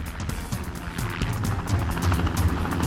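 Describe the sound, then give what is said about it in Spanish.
A helicopter thuds overhead, its rotor chop pulsing steadily and growing slightly louder, with a broad engine roar filling the background. “Entonces escucharon el helicóptero.”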